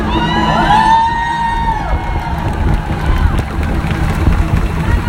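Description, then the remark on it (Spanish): A large protest crowd shouts and cheers in a loud, continuous roar, chanting "Ni una menos, libres nos queremos", with overlapping voices and rising whoops filling the space from start to finish. “Volvemos a gritar, ni une menos, vives, libres y desendeudades nos queremos.”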